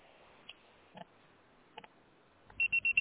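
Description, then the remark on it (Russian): A voicemail beep tone sounds as four quick, loud, high-pitched beeps in steady succession near the end, preceded by a few faint clicks and soft line noise, with no talking. “Пожалуйста, попробуйте перезвонить позже или оставьте свое сообщение после звукового сигнала.”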